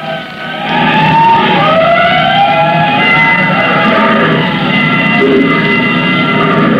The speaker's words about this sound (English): I think that clanging fire bell will stay with me for a long time.